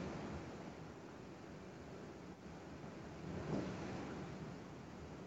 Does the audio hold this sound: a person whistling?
no